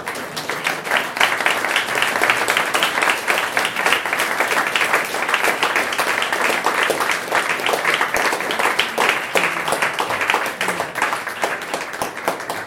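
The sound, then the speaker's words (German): Sustained audience applause, a dense wash of many hands clapping at steady loudness for about thirteen seconds without any speech. “Ich glaube, das verdient auch mal einen Applaus.”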